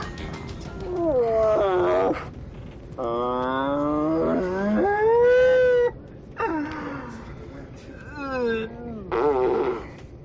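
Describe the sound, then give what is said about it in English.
A man's voice mimics a Canadian moose's mating-season call with long, drawn-out nasal groans and bellows that rise and fall in several loud bursts separated by short pauses. “Canadian moose during mating season.”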